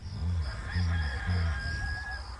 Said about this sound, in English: I like how the rooster's in there at the beginning.